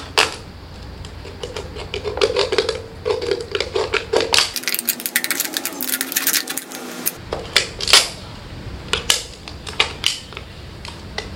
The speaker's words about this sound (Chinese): 好啦，咁樣咧，首先咧就將嗰個罐啦，咁飲完一罐啦，就一開為二先。